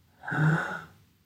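A single deep inhale during a guided breathing exercise, airy and breathy, swelling up and fading over about a second, fairly soft, with no talking around it.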